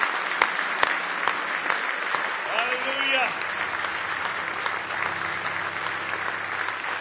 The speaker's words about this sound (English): Somebody say praise the Lord. If you love Him, give Him a big hand clap of praise this morning.